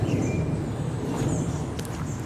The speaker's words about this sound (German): Man hört gerade ein Flugzeug. Das ist natürlich kein Naturgeräusch, aber naja, mittlerweile schon.